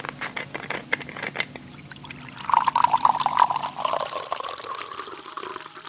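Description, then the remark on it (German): Water pours steadily from a jug into a glass, a continuous splashing stream whose pitch gradually rises as the vessel fills, with a few soft clinks at the start. “dass Sie einen Krug Wasser auf den Tisch stellen”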